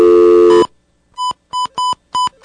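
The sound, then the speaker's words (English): A loud tone cuts off, then after a short pause come five quick telephone dialing beeps as a radio station phone dials an outside call to North Korea, each a brief bright electronic tone, played at a steady, slightly uneven pace with no one talking. “I'm dialing the number now.”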